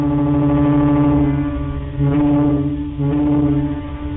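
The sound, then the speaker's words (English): Deep, droning ferry horns blast in long sustained tones, overlapping into a steady low chord that swells again twice as new blasts join in. No voices are heard. “It was a slow-motion symphony of honks and blasts, and it was also a language for those who could understand it.”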